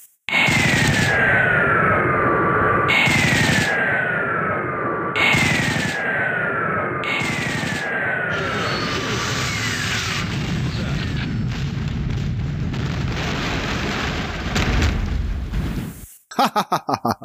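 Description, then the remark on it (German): A video game gunship attack, a Thunderhawk tearing apart ork hordes: loud, dense gunfire and rolling explosions, with four repeating descending whistling swoops at the start, then sustained booming chaos that cuts off abruptly near the end. “Also habe ich einfach mal aufgenommen, wie so ein Thunderhawk so Orkhorden zerlegt.”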